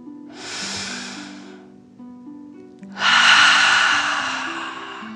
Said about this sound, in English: Breathe in through your nose, filling up your belly, and then out through your mouth, imagining you are breathing fire. Ready? Deep breath in and out.